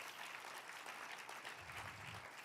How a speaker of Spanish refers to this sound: Déselo más fuerte ese aplauso a nuestro buen Dios.